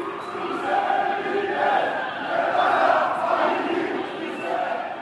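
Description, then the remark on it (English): A large crowd of Chrysi Avgi supporters in an Athens neighborhood in May shouts in unison at a memorial service, a dense, steady roar of many voices chanting slogans such as "Greece belongs to the Greeks", with rhythmic swells in loudness throughout. “Chrysi Avgi supporters were out in force in the neighborhood in May, shouting, "Greece belongs to the Greeks."”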